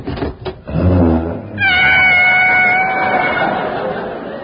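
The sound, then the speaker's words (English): A savage tiger being washed in a bath snarls with a low, rough growl, then breaks into a long, loud, high-pitched yowling wail that holds for several seconds with no talking. “He's washing a savage tiger.”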